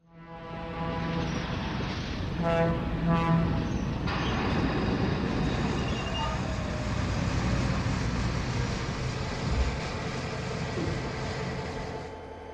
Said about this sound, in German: Und nun reisten wir auf demselben zermürbenden Weg per Eisenbahn nach Haesan.